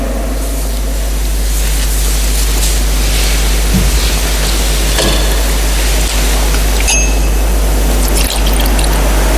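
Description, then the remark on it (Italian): Water is poured into a chalice of wine amid a steady hiss and low room hum, with a few faint metallic clinks; no one speaks. “L'acqua unita al vino sia il segno dell'unione con la vita divina di colui che ha voluto assumere la nostra natura umana.”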